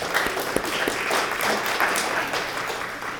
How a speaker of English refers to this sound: I invite us all to thank them and give them a short round of applause for their volunteer service.